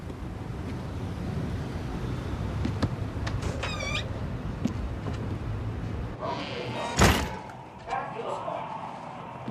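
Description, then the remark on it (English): The plain wooden door of the Lucky Seven Tavern, a bar in a drab building by the L-train tracks, creaks open against steady outdoor noise on rain-soaked streets, followed by a loud thump as the surroundings drop to the quieter, muffled tone of the dimly lit bar. “He opens the plain wooden door and steps inside.”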